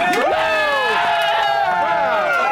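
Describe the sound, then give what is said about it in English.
A small group of people cheering and whooping together after getting a clue right, several excited voices overlapping with rising and falling shouts, loud for a couple of seconds. “Basically, every time we got a clue right, we would cheer.”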